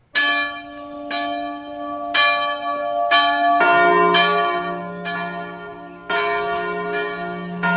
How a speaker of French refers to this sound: C'est donc à Beaugneux que l'équipe de Sur les Docks s'est rendue pour rencontrer un sonneur de cloche en activité